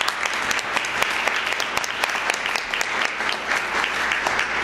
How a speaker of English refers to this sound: You all who are watching from afar could give them all a round of applause. They certainly have earned it today.